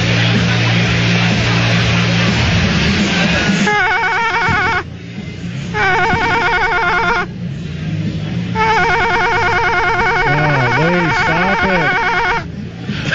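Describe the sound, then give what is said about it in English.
A telephone rings loudly in repeated bursts separated by brief pauses, its trilling bell tone carrying over a low rumbling background noise. “Somebody has to answer that.”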